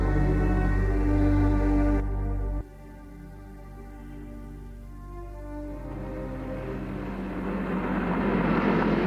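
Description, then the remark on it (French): A motorcycle races past at high speed at night, its loud, buzzing engine roar cutting off abruptly after a couple of seconds as it stops in front of a tree, then a rougher rumble swells up again toward the end. No one speaks. “elle est réveillée par un bruit de moto. Qui passe devant elle. Qui file à vive allure.”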